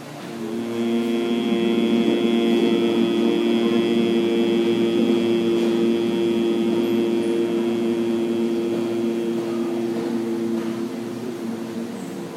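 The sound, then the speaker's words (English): A single long, steady humming exhalation of Brahmari, the humming bee breath, a low, even voiced drone imitating a bee that holds one pitch for about eleven seconds with no talking. “Three rounds of the Brahmari, sound of the humming bee.”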